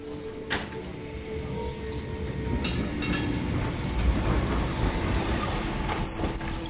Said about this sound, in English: dismounting tram, Lesnaya Street.